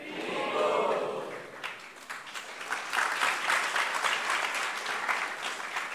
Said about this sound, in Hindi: ये सब तालियां आपके लिए थी। सो I need all of you.